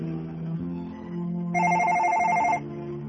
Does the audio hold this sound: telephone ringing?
yes